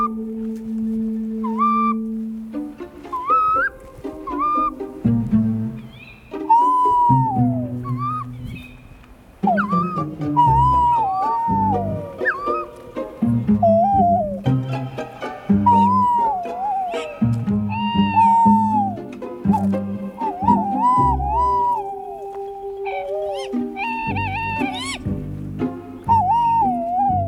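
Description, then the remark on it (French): Little owl calls ring out in a forest at night, followed by tawny owl calls: repeated mewing, wavering cries over lower drawn-out hooting, fairly loud, with overlapping voices crowding the night air and no talking. “Chouette chevêche, suivie par la chouette hulotte.”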